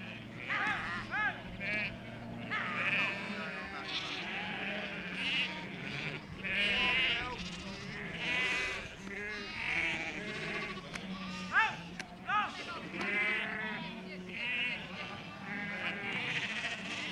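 A large flock of sheep on the moors of Dartmoor National Park in Devon, southwest England, bleats almost continuously with many overlapping wavering calls, some loud, forming a dense chorus throughout, as shepherds with border collies bring them in for shearing.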